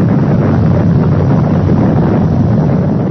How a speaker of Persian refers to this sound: انفجار از قعر زمین بیش از 10 میلیون متر مکعب خاک را به بیرون افکند. این ژرفنای بزرگ همین طور به وجود آمد.